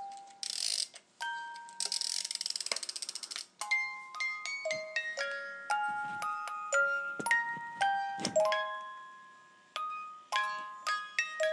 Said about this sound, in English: Yeah, it plays We Wish You a Merry Christmas, and it stands on my fireplace next to the chiming clock.